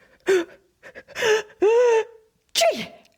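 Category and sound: human body sound, sneeze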